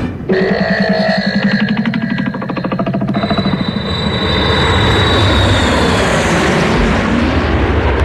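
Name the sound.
airplane engine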